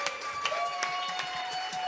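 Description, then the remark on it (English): An audience applauds with dense, steady clapping that holds at a moderate level throughout, scattered sharper claps standing out, with a faint sustained tone running underneath, at a release event for the poetry book Nature Poem from Tin House Books. “You better get up and clap.”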